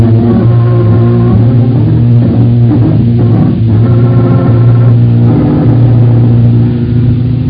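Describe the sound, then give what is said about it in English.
A car engine runs loud, a steady low drone with a brief surge of revving partway through as the car, taken from the garage, gets underway, with no voices. “we're going back in the garage, get our car, and go see Bill Wagon.”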